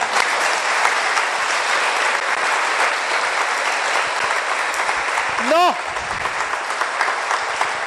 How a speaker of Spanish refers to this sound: El mensaje, óyelo tú en la radio, a esta radio católica que merece un aplauso, ¿eh?